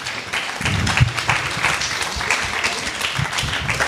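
A crowd applauds steadily, a dense, continuous patter of many hands clapping at an even loudness for several seconds with no voices standing out.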